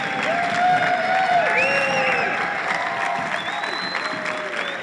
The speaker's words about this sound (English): Can we just give him a big round of applause for making this happen? And stand up too, I think it's well worth it.